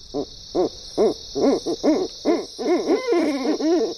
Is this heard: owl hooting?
yes